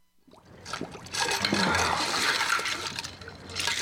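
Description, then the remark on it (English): Water sloshes and splashes as a face is plunged into a basin of ice water, with a churning, bubbling rush that continues for a few seconds. No one speaks. From a film scene in which Leo DiCaprio, as washed-up actor Rick Dalton, puts his face in ice water. “Leo DiCaprio plays Rick Dalton, a washed up actor who has a drinking problem, who's putting his face in ice water as the director comes in to talk to him.”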